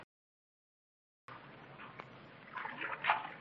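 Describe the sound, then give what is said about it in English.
Water splashes and sloshes as a canoe is paddled, starting abruptly after a moment of silence and growing busier, with a few brighter splashes near the end. “He and Judith have taken to the water again in search of the second canoe.”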